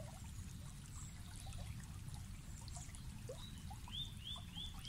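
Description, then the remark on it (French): A steady, gentle trickle of stream water runs throughout, with scattered bird chirps above it and a short series of rising whistles near the end. “Vous regardez le ruisseau et avez la sensation qu'il vous attire à lui, comme une jolie invitation tacite à le rejoindre.”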